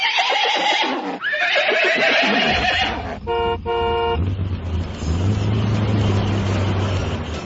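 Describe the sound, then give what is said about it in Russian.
Two loud, shrill horse whinnies from Ded Moroz's magic troika ring out one after another, followed by a short double honk of a vehicle horn and then a steady rumbling engine of the "Ded Moroz Express" truck, with no one speaking. “Целую неделю волшебная тройка Деда Мороза и летающий грузовик «Дед Мороз Экспресс» с 20 снеговичками на борту носились из города в город, с улицы на улицу.”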